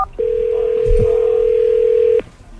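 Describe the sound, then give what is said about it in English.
A single steady telephone tone hums for about two seconds and then cuts off, with a faint click or bump partway through and no voices, as a football player phones season ticket holders in Jacksonville. “After he gets introduced as a Jag, he gets on the phone, starts making phone calls. Here's what it sounded like.”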